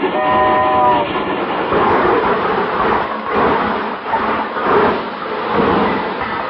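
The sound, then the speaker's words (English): A train sound effect of a presidential special train pulling in, loud and steady, with a brief whistle-like tone at the start and a continuous clattering roar of rolling cars throughout, no voices. “Why, when the presidential special pulled in, I'm the guy who stood on the platform singing”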